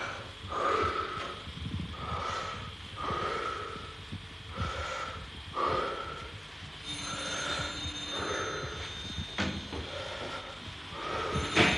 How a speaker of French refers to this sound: Mettez la chemise, mettez le dos bien rond, respirez fort la bouche ouverte.